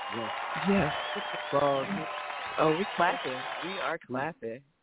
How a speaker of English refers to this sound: We're clapping. Keep clapping.